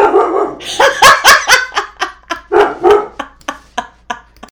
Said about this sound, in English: Anyways, we gotta stop. She's gotta stop. She can't bark.